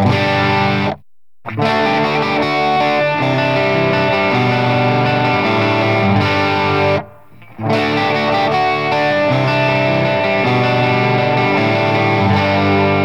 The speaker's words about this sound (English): Then there's overdrive, which you can think of as the sound of an amp turned up just to the point of breaking up. And overdrive can be crunchier like this.